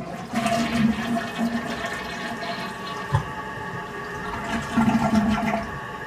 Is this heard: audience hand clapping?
no